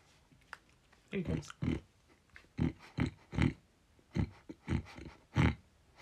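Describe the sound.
A man's voice imitates a pig, making a run of about nine loud, rhythmic snorting grunts with short pauses between them.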